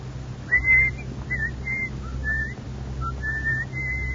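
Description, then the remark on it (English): Someone whistles a short melody of clear, separate notes that rise and fall, moderately loud, over a steady low hum, with no talking. “Please don't whistle”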